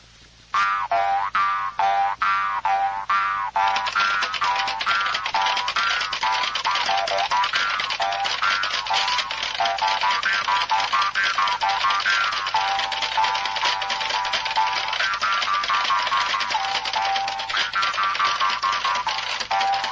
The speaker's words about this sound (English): I'm going to play this little hard, tight Austrian Jew's harp.